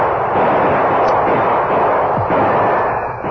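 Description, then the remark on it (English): A dense, continuous barrage of gunfire exchanged between outlaws caught in the open and the men shooting at them, loud, with shots blurring together into a roaring rattle that holds steady for a few seconds. No voices are heard. “The outlaws were between Bert's gunfire and that of the Lone Ranger and Tonto.”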